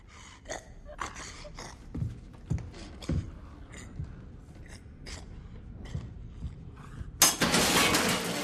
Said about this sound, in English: He rummages in cupboards. Clutching a hammer and wearing only grubby underpants, he steps closer to the crouching pair without seeing them in the dark.